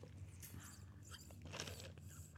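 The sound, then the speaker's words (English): Close-up sipping of an iced coffee right at the microphone as ASMR, with wet slurps and crunchy, crackling bursts running steadily for a couple of seconds and no talking. “Oh, I've got no coffee. Could just sip.”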